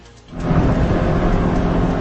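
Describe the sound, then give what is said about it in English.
A loud, steady roar of storm noise swells in after a brief quieter moment, with heavy low-end rumble like strong wind and thunder, sustained without pauses, from severe weather with two tornadoes swirling together in southern Oklahoma on the southern plains. “Vicious weather in the southern plains. Two deadly tornadoes swirling in unison in southern Oklahoma. All of it caught on tape.”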